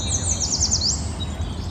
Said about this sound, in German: Ah, der beruhigende Klang von Vogelzwitschern.